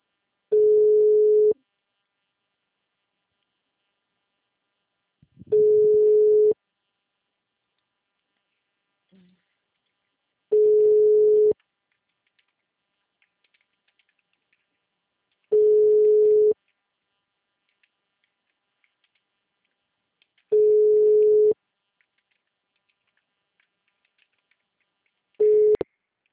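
A telephone ringback tone repeats on a call that goes unanswered: a steady mid-pitched beep about a second long, then four seconds of silence, six times in a row, the last one cut short.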